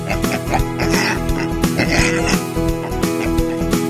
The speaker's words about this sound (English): The pink pig says oink, oink, oink, oink.